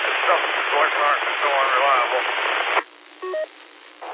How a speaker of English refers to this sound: I can't understand nothing you're saying. There's a ton of white noise. Sounds like you're way off in the background.